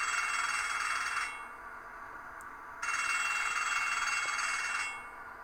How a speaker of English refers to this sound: I think this one's just in really poor condition. No, it's fine. Electronics are fine in this one. Because this bell rings, stops, rings.